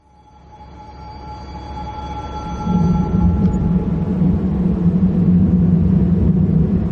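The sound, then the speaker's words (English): Heavy ferry ramp doors grind shut: a deep mechanical rumble swells steadily while a thin motor whine fades out, then a loud, steady clanking drone takes over. No one speaks. “That's the ramp doors closed.”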